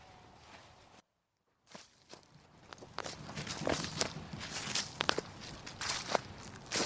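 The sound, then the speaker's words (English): Footsteps walk through the woods of Fox's Grove on High Ash Farm in a steady rhythm, each step a crisp crunch on ground strewn with acorns. A brief silent gap comes early, then the crunching steps grow louder. No one speaks. “We're now in the woods, Fox's Grove, on High Ash Farm, having a wander through here.”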